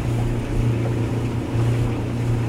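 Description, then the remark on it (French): A motorboat's engine drones steadily, a low continuous hum with water rushing and splashing against the hull throughout, no voices, as the boat heads back to the port of Nuuk among rocks on a sunny summer day. “Donc, on retourne vers le port de Nuuk, ça y est, on se remet en route.”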